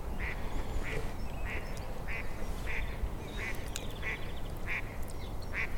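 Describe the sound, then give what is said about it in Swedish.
A duck quacks over and over in a steady, evenly spaced rhythm, about ten calls in a row, set against a constant wash of outdoor background noise, on a mirror-smooth lake lined with tall reeds in the early morning haze. “Jag är ingen fågelexpert, men and ser jag. Eller änder kanske det heter då när det är flera stycken.”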